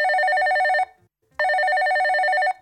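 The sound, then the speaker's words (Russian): A telephone ringback tone sounds twice as a call is placed to the editorial office of the oldest St Petersburg journal, Zvezda; each steady tonal burst lasts about a second with a short silent gap between, clear and fairly loud with no talking. “Мы продолжаем и набираем номер редакции старейшего петербургского журнала «Звезда».”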